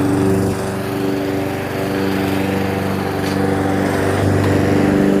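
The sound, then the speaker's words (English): A lawn mower engine drones steadily throughout as a neighbor mows his lawn, a loud, continuous buzzing hum with stacked harmonic tones and slight fluctuations in pitch, without any talking. “There's the neighbor out mowing his lawn.”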